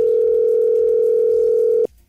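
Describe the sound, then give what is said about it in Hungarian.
A telephone ringback tone on an outgoing call to a radio listener: one steady, loud, pure beep that holds for almost two seconds and then cuts off abruptly, with no voices. “Így van, hívjuk a naphallgatóját közben.”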